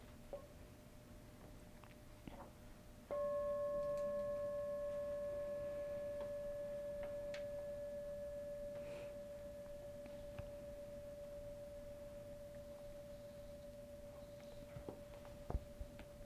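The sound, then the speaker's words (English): A single meditation bell is struck once to begin a meditation, ringing with a clear, steady tone and bright overtones that slowly fade over more than ten seconds against a quiet background with faint small noises. “Okay, so let's begin with one sound of the bell and just settle in and follow our breathing.”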